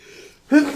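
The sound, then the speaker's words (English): One fairly loud sneeze: a short, faint breathy intake, then a sudden voiced burst that cuts off quickly. “Bless you.”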